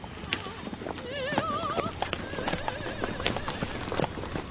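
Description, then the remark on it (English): Horse hooves clip-clop in a steady rhythm as a horse pulls a buggy, while a horse whinnies loudly over the clattering steps. “So how much did that horse and buggy set us back?”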